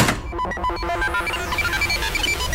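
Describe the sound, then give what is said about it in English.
A telephone rings in quick repeated bursts amid a dense, clattering wash of electronic tones and noise, with nobody picking up or speaking. “Someone doesn't like picking up the phone.”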